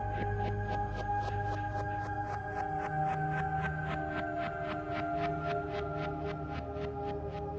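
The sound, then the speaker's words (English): Helicopter rotors from the film Apocalypse Now chop in a steady, rapid rhythm of about four beats a second, over a continuous droning engine hum and high whine that hold throughout. “The magic choppers of Apocalypse Now.”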